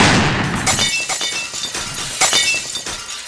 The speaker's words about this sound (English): Finally, if someone's forgotten to open the windows, they will have broken, leaving shards of glass all over the courtyard.